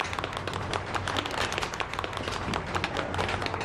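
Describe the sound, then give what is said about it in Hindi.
An audience in a hall breaks into loud applause greeting the arrival of Akbar Sahab, a dense, steady wash of many hands clapping at once, sustained at an even level for a few seconds with no voices over it. “अकबर साहब की आमद पर जोरदार तालियां।”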